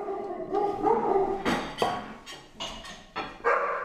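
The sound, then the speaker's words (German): Several dogs bark and yowl excitedly, a tangle of overlapping sharp barks and drawn-out howling cries with no pause, loud and agitated throughout. “Nein, die Hunde sind völlig aus dem Häuschen”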